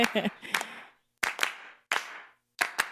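Sharp handclaps in a loose rhythm in a song recording made only of voices and claps, mostly in pairs separated by short pauses, with a faint voice underneath at the start.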